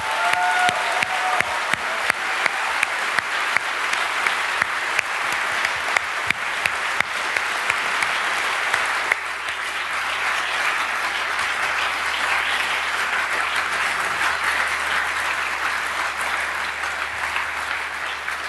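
A crowd at a camp at Ziegeleipark Miltenberg applauds the venue warmly and steadily for nearly twenty seconds, a dense wash of many hands clapping with a few sharper claps standing out early on, sustained without any talking.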